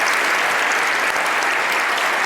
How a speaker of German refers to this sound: Und einen ganz großen Applaus für alle Gruppen, die da so viel Schönes gemacht haben.